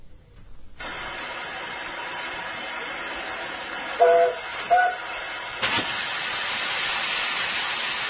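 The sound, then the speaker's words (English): A steam train on the East Somerset Railway, a preserved steam line based in Cranmore, just east of Shepton Mallet in Somerset, rumbles steadily with a broad hiss, two short whistle toots sounding around the middle before the chuffing noise swells louder toward the end. “here is a report on one of Somerset's preserved steam railway lines”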